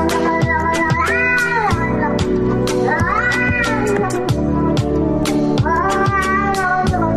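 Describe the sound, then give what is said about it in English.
Cat meows repeat every couple of seconds, each a drawn-out rising and falling cry riding over a loud, steady musical backing with a punchy beat. “They're eating the cats. Meow, meow, meow, meow.”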